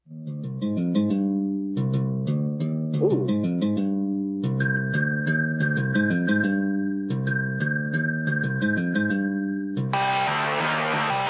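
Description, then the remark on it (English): A bleepy electronic Rasta Furby drum and bass remix plays loudly, with a choppy synth melody in short repeated bursts, sustained high tones layered over it, and a harsh noisy burst at the end. “That was supposed to be a Rasta Farby drum and bass remix.”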